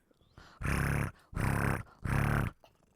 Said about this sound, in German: Oh, halt dir mal das Mikro hin, weil ich glaube, ich höre die schnurren. Das ist aber wirklich süß. Das könnten wir uns jetzt eine Weile anhören.